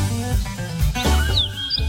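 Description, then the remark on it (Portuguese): Small birds chirp in the background with a few quick, high, sweeping notes, partly masked by a louder, steady low rumbling drone that fills the whole clip. “Os passarinhos estão cantando também.”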